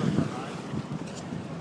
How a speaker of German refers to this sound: Es fahren die großen Schiffe durch die Elbe.